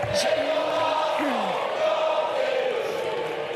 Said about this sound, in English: Boos and shouts echoed throughout the National Assembly as French Prime Minister Elisabeth Borne pushed the pension bill through without a vote.